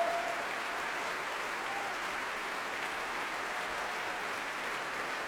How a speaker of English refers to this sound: Applause now for the Royal Opera Chorus, the men in the third act, but there were women too in the second act.